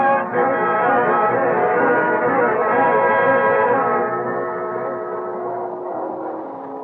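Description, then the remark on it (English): A train sounds a long, loud, steady whistle chord over a low rumble, holding for several seconds before easing slightly as it carries on; no one speaks. “I didn't expect the pleasure of seeing you on this train.”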